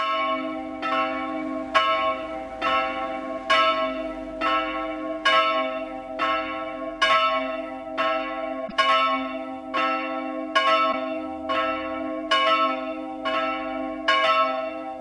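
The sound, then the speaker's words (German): Church bells of the Evangelical Lutheran St. Paulus Church in Munich-Perlach ring a steady 12 o'clock midday peal, with regular strikes overlapping in a rich, sustained hum of ringing tones. Loud and continuous with no voices. “Das Mittagsläuten kommt heute von der evangelisch-lutherischen St. Paulus-Kirche in München-Perlach.”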